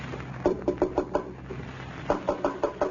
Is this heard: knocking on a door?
yes